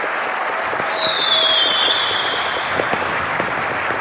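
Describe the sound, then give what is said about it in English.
A fireworks sound effect: a high whistling streak gliding downward over dense, continuous crackling and scattered pops, fairly loud, with no voices. “I think cue firework effect.”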